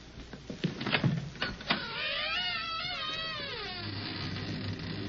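An old door in an old house opens onto an old attic: a few rattling, clunking knocks at the latch, then a long, wavering, high-pitched creak of the hinges for about two seconds, fading into a low steady hum.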